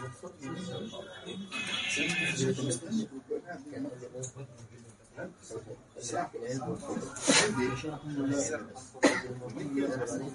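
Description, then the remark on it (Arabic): A sharp, explosive sneeze bursts out, followed a moment later by a second brief burst, with murmured voices and a low rumble underneath. “رحمك الله.”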